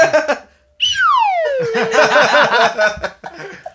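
A slide whistle swoops downward in one falling glide, fairly loud, played to express shaking one's head, as people break into laughter that carries on over the tail of the tone.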